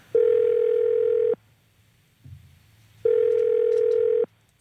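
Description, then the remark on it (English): Telephone dial tone on a call to someone from the Kendall Calling lineup, heard as two long, steady buzzing tones separated by a pause of about two seconds, clear and fairly loud with faint line noise between them and no voices. “someone from the Kendall Calling lineup is about to be on the line”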